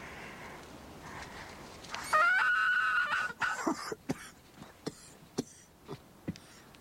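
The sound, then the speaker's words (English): A fox squeaker, blown to lure a fox, imitates a rabbit being taken by a stoat with one shrill, wavering squeal lasting over a second, then a string of short, sharp breathy puffs and clicks, with no talking. “This fox squeaker.”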